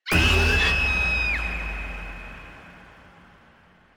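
A woman lets out a single long, piercing scream. It holds a steady high pitch, then dips, and fades into a lingering echo with no talking.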